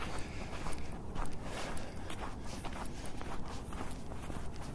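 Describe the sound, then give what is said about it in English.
Steady footsteps of a person walking in the middle of a street at an even pace, each step a soft scuffing thud over a continuous bed of low outdoor rumble, with no talking. Recorded on an R05 recorder held by the walker. “I'm literally walking in the middle of the street right now, holding it an R05 recorder, which actually might pass as a cell phone to the uninitiated.”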